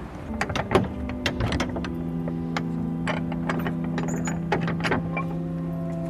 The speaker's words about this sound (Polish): Ktoś zdecydowanie próbuje dopasować klucz, chyba.